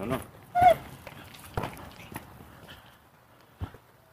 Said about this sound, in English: That dog appeared to be scared of me.